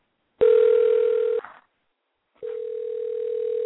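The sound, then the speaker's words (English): A telephone tone while a call is placed to reach Jessica Aguilar: a steady, mid-pitched electronic buzz lasts about a second, breaks off for a second of silence, then resumes and holds to the end. No one speaks. “Let's try with Jessica Aguilar as we're trying to reach her.”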